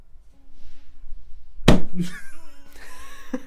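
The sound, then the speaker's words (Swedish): A Bible slams hard against a wooden coffin lid to bang open a crack, one loud cracking bang followed a moment later by a smaller knock, over a low steady hum and faint tonal ringing. “Hämtar en bibel och bankar upp med din sprickan.”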